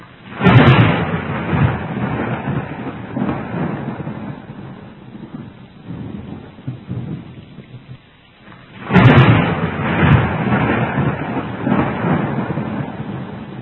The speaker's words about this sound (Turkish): Ve şimşekler, yıldırımlar, peşinden şakır şakır yağan yağmur.